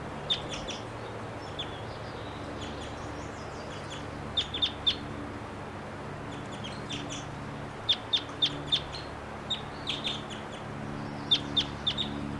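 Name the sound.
wild bird calling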